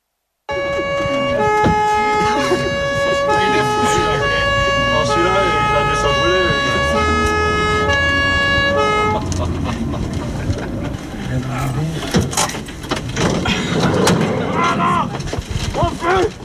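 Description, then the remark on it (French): A fire truck's horn and siren blare loudly in long, stepped tones for about eight seconds, then give way to a noisy, clattering commotion with voices. “a prétexté un incendie pour nous embarquer dans un camion de pompiers.”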